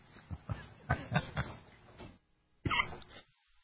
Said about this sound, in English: Haven't quite gotten quite past the coughing when you laugh part yet, but anyway.